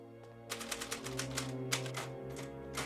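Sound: typing on a typewriter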